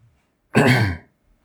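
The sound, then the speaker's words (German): A single short, rough cough, loud and breathy, with quiet silence before and after and no talking. “Tut mir leid. Ich huste jetzt irgendwie mehr.”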